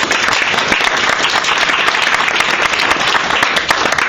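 Sustained audience applause at a debate, a dense, steady wash of many hands clapping at an even loudness for several seconds, with no speech over it.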